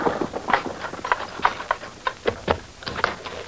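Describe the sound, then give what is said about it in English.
Horse hooves clip-clop at a steady walking pace, a dozen or so crisp hoofbeats with a hollow knock, as a horse-drawn rig draws up. No one speaks. “You can leave the rig there. I'll have someone attend to the horse.”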